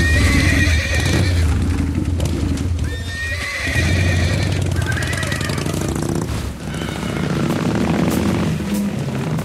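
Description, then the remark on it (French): Several agitated thoroughbred horses at a horse auction at the Élie de Brignac sale establishment beside the racecourse whinny repeatedly over a steady clatter of hooves, with a continuous low rumble of activity beneath and no talking. “On achète bien les chevaux.”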